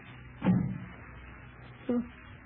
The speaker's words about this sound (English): What was that? Sounded like the back door closed. Must have been the wind, I think.